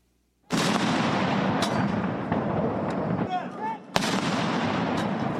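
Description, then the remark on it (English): Two loud, booming cannon shots about three and a half seconds apart, each followed by a long rolling rumble that lingers and echoes, as members of Japan's Self-Defense Forces fire a 19-gun salute at the state funeral of former Prime Minister Shinzo Abe in Tokyo. “Members of Japan's self-defense forces fired cannons in a 19-gun salute as Abe's widow, Aki Abe, carried the late leader's ashes to a funeral ceremony.”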